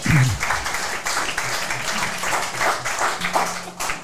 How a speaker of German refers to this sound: Also auch nochmal einen Applaus für Dirk Krampe bitte an der Stelle